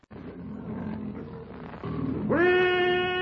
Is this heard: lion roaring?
yes